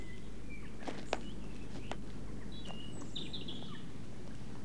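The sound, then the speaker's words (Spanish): A great tit, half hidden among leaves, gives a few thin, high-pitched furtive alarm calls to its family, brief and faint, scattered irregularly over a steady outdoor hiss with occasional soft clicks and rustles. “Este es un carbonero común.”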